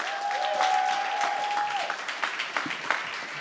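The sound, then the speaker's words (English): An audience at a live show claps steadily for a few seconds as performer Ryan De La Garza is called up to the mic. It is a dense wash of many hands that thins slightly toward the end, with a thin steady tone humming over the first half. “Clap your hands for Ryan.”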